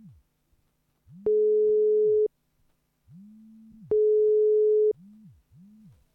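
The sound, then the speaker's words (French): Two steady, loud electronic beeps, each lasting about a second, with lower humming tones that rise and fall between them: the voicemail beep heard over a phone line after a French voicemail greeting. No one speaks. “Merci de laisser un message après le bip.”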